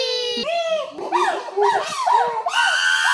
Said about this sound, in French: Écoute bien, il va y avoir un bébé chimpanzé qui va crier très fort.